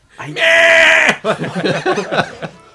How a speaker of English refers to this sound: See if you can find audio of a screaming goat.